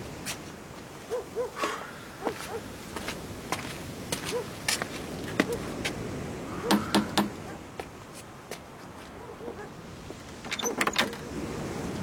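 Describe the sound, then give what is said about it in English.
Sharp raps on a door come in short clusters, including a quick run of three, amid scattered clicks and shuffling noises at moderate loudness, with no one speaking. “Knock on the door, man.”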